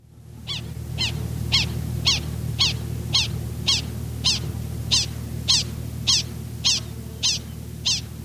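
A prairie dog gives a steady series of about fifteen sharp, high alarm chirps, each lasting about a tenth of a second, evenly spaced roughly twice per second, clear over a low rumbling background hum.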